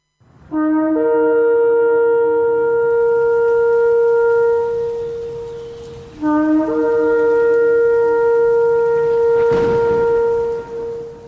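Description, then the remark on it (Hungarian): A horn blows two long, loud sustained blasts for the Feast of Trumpets, each opening with a short lower note before rising to a steady, brassy tone, with no voices. “Kürtzengés ünnepe.”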